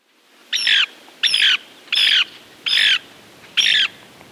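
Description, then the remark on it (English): A Lewis's woodpecker gives five harsh, raspy squawking calls in a steady, evenly spaced series, fairly loud, with faint background hiss between them and no voices. “Among the marvels that Meriwether Lewis discovered as he and William Clark explored westward in 1805 was a beautiful bird that would later bear his name, Lewis's woodpecker.”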